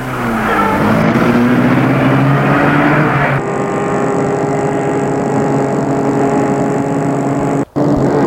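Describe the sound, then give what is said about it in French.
A car is started and driven off: its engine roars, pitch climbing as it accelerates, then settles into a steady, loud driving drone with a thin high whine. No one speaks. “Elle le mène à sa voiture, le fait entrer, entre et met la voiture en route.”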